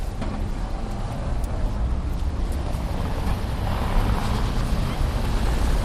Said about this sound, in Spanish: El tráfico es intenso en el centro de la ciudad. Me fijo en los coches que tienen una fina capa de polvo provocado por la nieve que cae sobre ellos. Nadie los limpia.